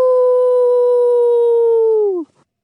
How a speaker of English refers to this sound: My heart is thumping hard. That sounded a lot like a howl.